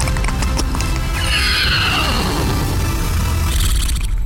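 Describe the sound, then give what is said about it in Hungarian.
A man's voice mimics a horse's neigh, a loud whinnying cry that rises then trails off in a quavering descent, with steady background music underneath throughout. “Ló, figyelj.”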